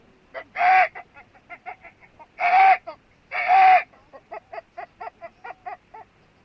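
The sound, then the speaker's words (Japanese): A chicken clucks in a rapid, rhythmic series of short notes, broken by three louder, drawn-out squawks near the start, with no talking. “まあまあ、そんな無理難題言わんと、今日のところはこの鶏で勘弁してくれ。”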